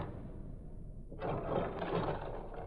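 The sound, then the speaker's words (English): A low mechanical hum gives way to a louder, steady rattling whir as an elevator car and its door mechanism start up and run, the elevator going to the ground floor. No one speaks. “This elevator takes all day.”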